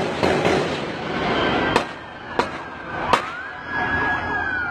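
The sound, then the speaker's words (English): Three sharp gunshot cracks ring out less than a second apart over a rumbling outdoor din during a street march, followed by a siren wailing up in the background. “Like, I heard one shot pop, and then I heard pop, pop. Then I start hearing gunshots just ringing out.”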